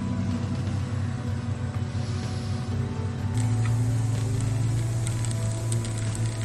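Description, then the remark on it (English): An off-road vehicle's engine rumbles steadily as it crawls over large granite rocks and boulders after water crossings, joined partway through by scattered high squeals and scrapes from its wet brakes. No one speaks. “Doing this with wet brakes makes for a very noisy video, as you can probably hear.”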